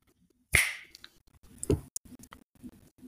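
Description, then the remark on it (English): A single crisp finger snap cracks out sharply and rings briefly before fading, followed by faint, scattered low murmurs and soft clicks. “Is that a finger snap of revelation?”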